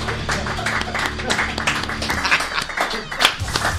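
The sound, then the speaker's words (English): A polite round of applause from a crowd: steady, dense clapping at moderate loudness that holds evenly for a few seconds, with some voices mixed in underneath. “Polite round of applause.”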